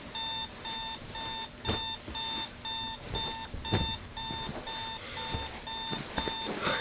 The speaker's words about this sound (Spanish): despierta abruptamente, vuelve a apagar la alarma y al ver la hora se levanta como loca.